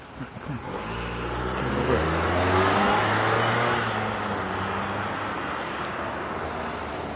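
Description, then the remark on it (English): Cars move through a busy street intersection, heard while walking, engines revving and accelerating while steady road noise fills the background, with a brief hint of voices under the traffic. “Cars.”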